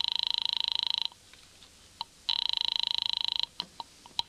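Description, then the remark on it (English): A telephone rings down the line in two buzzing, warbling bursts separated by a short pause, followed by a few faint clicks and handling noises. Nobody speaks. “Give me that phone.”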